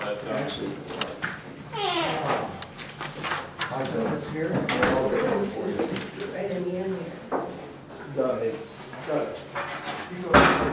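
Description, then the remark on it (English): Folding chairs clank and snap open one after another as they are unfolded and set up in an aisleway at a morning study gathering, a scattered series of metallic clatters and thumps, with murmuring voices and a child's chatter running underneath. “There's a few chairs in the back there, Doug, to unfold, and you can set them over there in the aisleway.”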